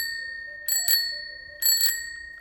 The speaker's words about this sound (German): Ich habe die Kuratorin gebeten, mal die Klingel eines Fahrrads von 1910 zu betätigen.